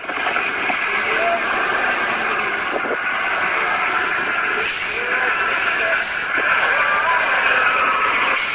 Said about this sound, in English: This is the tow truck.